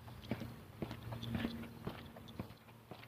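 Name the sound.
slow footsteps walking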